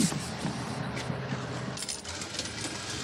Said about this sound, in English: There go the bus. Yeah, let's go. Hold that bus. Hold the bus, please.